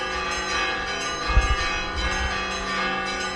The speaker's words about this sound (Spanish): Considera que con financiación e inmigración la situación es reversible y para celebrarlo en Aliste han vuelto a sonar hoy las campanas.